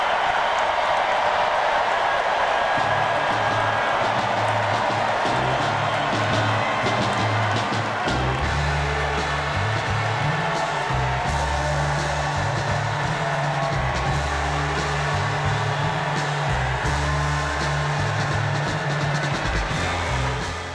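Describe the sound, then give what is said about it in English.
A large indoor crowd at the Democratic National Convention at the United Center cheers and applauds Kamala Harris loudly and continuously after a speech, a dense roar of clapping and shouting, with a low, rhythmic thumping beat joining in under the noise partway through. “And the crowd enthused. This raucous crowd at the DNC, at the United Center.”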